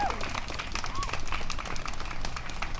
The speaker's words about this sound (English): Can I get one more round of applause for all the amazing work that has been done here today and yesterday?